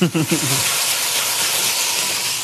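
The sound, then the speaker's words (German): A kitchen range hood fan roars as it comes up to full speed while food is seared at high heat, a loud, steady, airy rush that fills the whole clip, with a brief bit of voice at the very start. “Endlich kommt die Dunstabzugshaube hier, Mariti, auf Touren, sag ich mal.”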